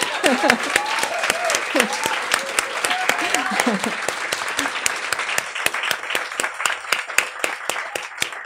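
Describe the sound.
A crowd applauds steadily for several seconds, a dense wash of many hands clapping, with voices calling out and cheering over it in the first half.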